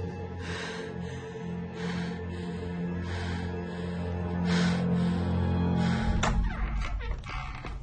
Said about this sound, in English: Chris lies motionless nearby as she gasps for air.